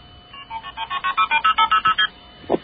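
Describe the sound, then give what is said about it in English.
A rapid sequence of about fifteen short, evenly spaced two-tone beeps of shifting pitch, multi-frequency (MF) telephone signaling tones dialing a pledge phone number, played clearly with no talking, ending in a brief click. “Oh, those are illegal tones. Those are MF tones.”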